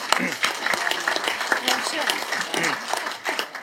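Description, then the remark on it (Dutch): Steady crowd applause at a water board (waterschap) meeting, marking nine women among its 29 members, a dense patter of many hands clapping at moderate loudness, with voices talking over it throughout. “Dus dat is ten opzichte van vorig jaar, dat mag wel een applaus, hè?”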